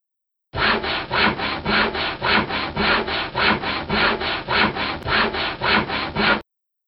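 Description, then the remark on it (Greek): A hand saw cuts through wood in steady back-and-forth strokes, about a dozen rhythmic rasping passes at an even loudness, with no voices. “Πριόνι.”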